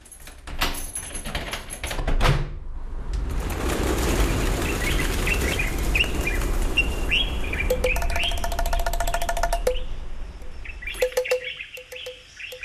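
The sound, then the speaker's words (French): Birds chirp and sing in quick, bright bursts over a steady rushing wash of noise, with dry rhythmic clicks and taps joining in toward the end; no one speaks. “Parce que vous n'avez pas le monopole des oiseaux et des percus, vous l'avez nous aussi, dans votre album.”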